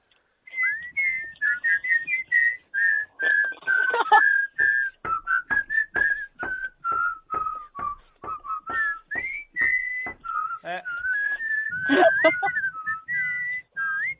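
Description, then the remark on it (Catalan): A person whistles a continuous, wavering melody for the whole stretch, fairly loud, with short breathy gaps between notes and a brief burst of noise partway through. “Esteu xiulant, que m'ho crec.”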